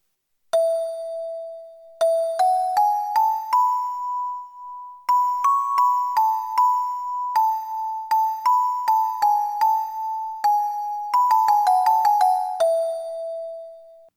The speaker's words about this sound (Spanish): ¡Es una campanilla! Es una campana bien chiquita y esta hace un sonido agudo como de ardillita.